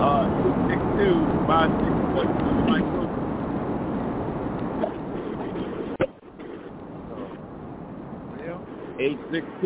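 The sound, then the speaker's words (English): Steady roaring wind noise from an open truck window, heard over a caller's open phone line, with a low rumbling drone and muffled voices talking underneath; the roar briefly cuts out partway through, then resumes. “Yeah, or he's either driving the truck and got the window down.”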